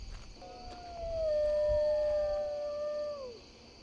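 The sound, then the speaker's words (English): A coyote lets out one long, drawn-out howl at night that holds steady before sliding down at the end, moderately loud against a faint background hiss and a thin high insect-like drone. “Coyote? Maybe.”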